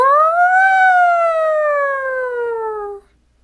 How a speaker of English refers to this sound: And here comes the siren.